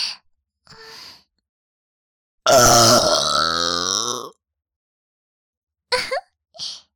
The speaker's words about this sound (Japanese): よーし、最後に特大ゲップしまーす。いきますよ。